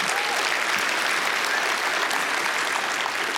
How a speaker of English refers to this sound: Clap for the word of God. There you go.